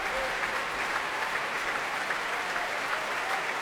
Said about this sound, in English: And, well, you can hear from that stamping and cheering. Joseph Kalea back on stage now.